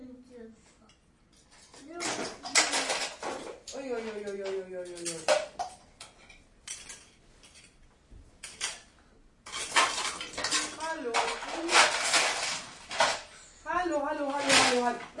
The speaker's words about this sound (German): nicht so dieses Kleinkram hier durch die Gegend schmeißen. Das müssen wir alles wieder aufräumen nachher, bevor wir nach Hause gehen sollen.